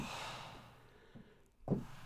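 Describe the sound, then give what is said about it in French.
Forceful breathy exhalations: a long airy blow that fades out, a faint short puff, then a sharp, louder burst of breath near the end. No speech. “Des expirations forcées.”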